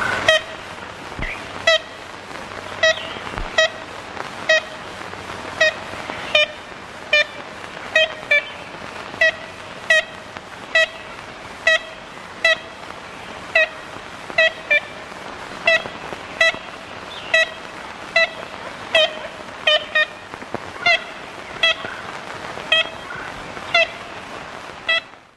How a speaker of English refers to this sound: A recording of the ivory-billed woodpecker made in 1935.